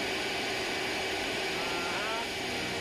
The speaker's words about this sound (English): It's a Mercedes vacuum cleaner, right.